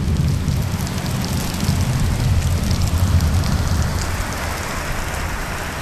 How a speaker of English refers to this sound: It's like someone just turning a faucet on. There's really no warning. And it rains for about 20 minutes, and then it's done. But it's really quite a lovely sound, very dense, very heavy, with lots of lightning and thunder as well.